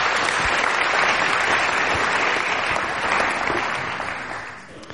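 Audience applause, a dense steady patter of many hands clapping at full strength, then tapering off in the final second. No voices are heard.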